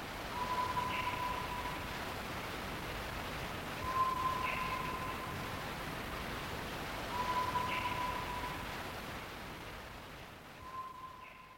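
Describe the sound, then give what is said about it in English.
Four long, pure, organ-like whistled notes, alleged to be the call of a South Island kokako, ring out at steady intervals of a few seconds, faint beneath a constant wash of hiss and rustling noise. “Alleged South Island Kōkākū. Two. So it was extremely mysterious.”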